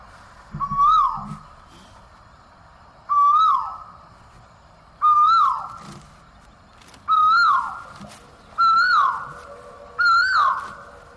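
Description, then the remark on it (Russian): A Vrindavan cuckoo calls six times in steady succession, each long, insistent call a sweet, rising whistled note that swells and then falls away, clear over a faint low background rumble. “Да, это вриндаванские кукушки.”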